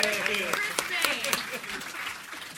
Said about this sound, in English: Yay! Round of applause.